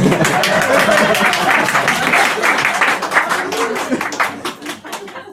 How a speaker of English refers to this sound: Every time you clap, I'll drink.